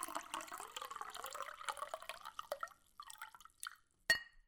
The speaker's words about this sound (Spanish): El anciano saca una botellita verde de entre sus ropas. Vierte un poco de agua en un vaso.